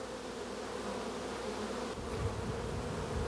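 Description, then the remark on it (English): A dense, continuous hum of many honeybees buzzing on the comb in a hive, steady, with the low drone swelling slightly partway through, while a new bee emerges from its cell, chewing through the comb. No one speaks. “That's a brand new bee emerging for the first time.”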